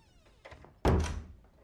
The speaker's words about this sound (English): In his office, Ted sits hunched on a sofa. Tipper enters. He looks up as she closes the door behind her.